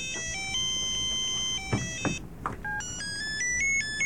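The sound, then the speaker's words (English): A bright electronic phone ringtone plays a stepping, synthetic melody of short high tones, briefly interrupted by a couple of soft thumps before the jingle resumes at a steady level. “This was actually on the old phone. They have a funny one in here.”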